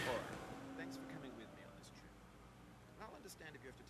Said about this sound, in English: Did we just hear a truck drive by his house? Yeah. Close your window, man. You're streaming.